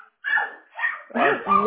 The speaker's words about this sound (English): I'm not going to be able to hear you. The dog is just going nuts.